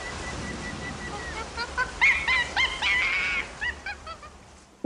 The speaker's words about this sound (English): So on a tropical island there, by the sounds of it, with the monkey.